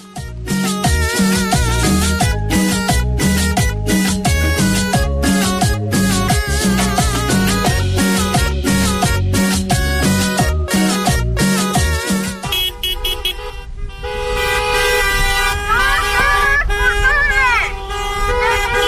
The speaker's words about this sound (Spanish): Hoy han llevado a cabo una caravana de coches en protesta en la capital cacereña